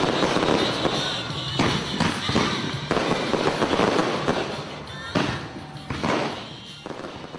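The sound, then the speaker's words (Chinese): Fireworks burst one after another in a dense, loud barrage at a night-time Mid-Autumn (Moon) Festival celebration in Yuhua Garden, sharp pops and crackles piling over a constant roar with hardly a pause between blasts. “绚丽的烟花将中秋庆祝活动推向了高潮。”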